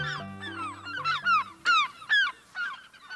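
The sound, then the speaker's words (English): A gull calls repeatedly, about eight harsh, downward-slurring cries in quick succession, the middle ones loudest, over a soft, steady low tone. “Look at that gull drifting across the sky.”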